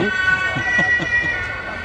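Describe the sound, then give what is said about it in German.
A police car siren wails steadily and fairly loud, its piercing tone holding throughout, with a voice talking faintly underneath. “Wieder ein Polizeiauto.”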